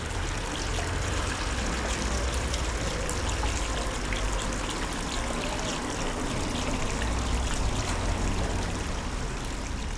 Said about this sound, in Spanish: estoy pensando ahora en el ejemplo clásico de las fuentes de agua intentando enmascarar un problema de tráfico, por ejemplo, ¿no?